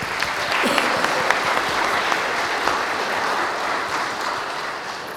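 A church audience at a baptism service breaks into steady applause to welcome a newly baptized girl, dense overlapping claps sustained at an even, fairly loud level for several seconds with no speech over it.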